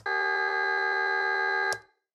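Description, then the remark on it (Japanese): A steady, harmonically rich buzzer tone, made by looping a very short cut of a recorded human voice, holds at constant loudness for nearly two seconds, with a faint regular pulsing from the tiny looped vocal fragment, then cuts off with a brief click. “ブザー音に聞こえます。元は私の声なのにこんなに機械的な音に。”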